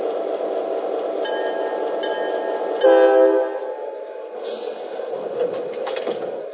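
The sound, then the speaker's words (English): Passenger train number 105, the East Coast Champion to Miami, rumbles steadily into Philadelphia station on track 1, with a sustained horn-like tone swelling near the middle before fading back into the rolling rail noise and squealing brakes. “track 1, train number 105, East Coast Champion.”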